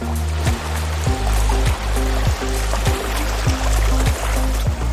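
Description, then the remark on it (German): River water rushes steadily and continuously where the Enns and Steyr rivers meet in Steyr, Upper Austria, a dense full hiss of flowing current with a low, regularly repeating tonal pattern underneath and no voices. “Zwei Flüsse treffen hier aufeinander, Enz und Steyr.”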